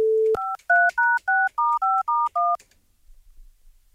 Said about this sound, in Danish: Så nu ringer jeg til mig selv.